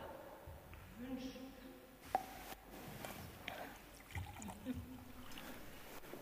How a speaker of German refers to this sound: während ich jetzt hier das Taufwasser eingieße und jeder von euch sich schon mal zwei Becher nimmt